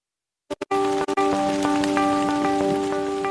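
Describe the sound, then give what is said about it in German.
After a few sharp taps, heavy rain pours down in a forest in a dense, steady, loud roar, with a sustained musical drone humming beneath it. “Wenn es im Wald in Strömen regnet, veranstalten viele Bäume ein wahres Saufgelage.”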